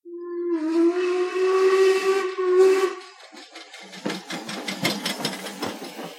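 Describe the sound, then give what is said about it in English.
A steam train whistle blows a loud, sustained tone for about three seconds, then gives way to rhythmic chuffing and bursts of hissing steam as the train arrives at a station at 8:45 in the morning. “Right on schedule, the train arrived.”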